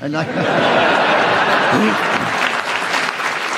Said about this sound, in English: Well, you weren't interrupted, even if it was by me, and the audience clapped, so we give you the bonus point